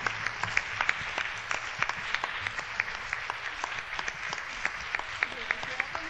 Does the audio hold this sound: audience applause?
yes